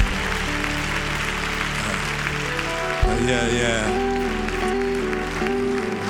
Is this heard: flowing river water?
no